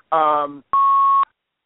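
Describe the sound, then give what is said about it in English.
Two short electronic tones on a phone line as a caller disconnects from a live radio call, a buzzy descending note followed by a steady half-second beep, both loud with nothing else around them. “And I hear beeps all over the place now. I don't know what's going on, but I hear beeping in my ear.”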